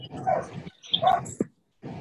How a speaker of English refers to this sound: My dog's barking, so here we go. Mute me. Yeah, the dog's saying, take a shower.